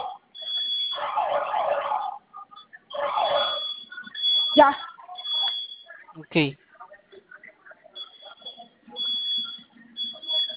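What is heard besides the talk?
security alarm sounding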